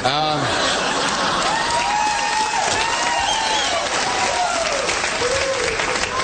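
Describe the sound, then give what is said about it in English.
A stand-up comedy audience in Raleigh claps steadily and loudly throughout after the comedian says he quit smoking, a dense wash of applause mixed with scattered laughs and voices rising from the audience. “Thank you for your support, but no applause, please.”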